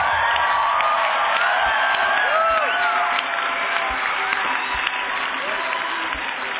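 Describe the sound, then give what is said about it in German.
A crowd applauds steadily throughout, a dense wash of clapping mixed with scattered cheers and whoops, loud and sustained from start to finish with a few voices rising above it. “Auf den anderen wollen wir auch einen Applaus für alle Guten”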